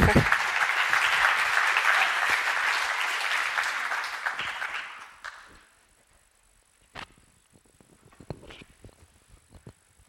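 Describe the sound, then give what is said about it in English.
A room full of people at a discussion applauds loudly for about five seconds as panelists are called down. The clapping quickly fades out, leaving near silence broken by a few scattered claps and small noises. “You don't need to clap.”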